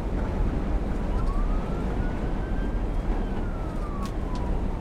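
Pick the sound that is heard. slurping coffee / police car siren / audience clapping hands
police car siren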